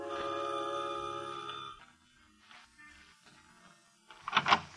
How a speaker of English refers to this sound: Ring the doorbell, murderer.